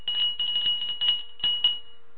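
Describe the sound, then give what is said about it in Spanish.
A small handbell is rung in a quick series of bright, clanging shakes, with a steady high ring sustained between strikes. It's fairly loud, and no one speaks. “Voy a tocar de nuevo mi campana.”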